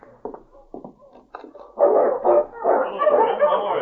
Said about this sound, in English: He hears something. Oh, it's a dog team. Quiet, Rex. That sounds like Sergeant Preston.